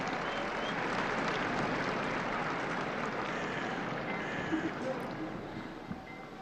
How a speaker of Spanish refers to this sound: Oímos esa ovación porque el Santo Padre ya saluda desde el balcón.